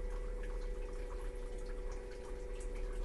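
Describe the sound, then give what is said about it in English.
A bidet's water jet on its loop wash setting sprays steadily, a continuous hiss with a low mechanical hum from a pump underneath, holding evenly at moderate volume with faint scattered splashing and no talking. “Now, this is a loop wash.”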